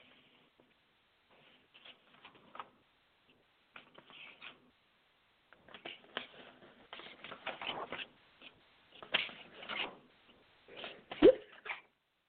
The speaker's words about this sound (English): Two sounds a preacher loves to hear. Pages turning.